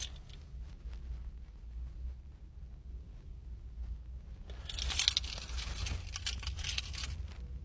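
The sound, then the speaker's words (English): Metallic jingling rattles in a burst over a steady low rumble, like keys being shaken, with lighter clinks trickling in before and after the main jangle. “All right, let's, do I have, yes, I have my keys.”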